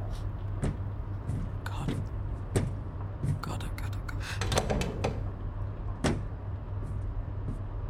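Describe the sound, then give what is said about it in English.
A door is handled and shut, with a series of sharp knocks, clunks and rattles spread over several seconds against a steady low hum and faint murmuring voices. “Shut the door.”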